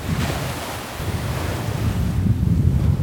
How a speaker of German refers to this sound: Von Weitem hört man schon das Meer. Durch den Sand geht es hoch über die letzte mächtige Düne und dann eröffnet sich der Blick auf den riesigen Sandstrand und den blauen Ozean.